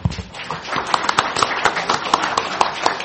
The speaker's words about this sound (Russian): Я думаю, что у нас есть возможность поздравить всех членов избирательной комиссии нашими аплодисментами.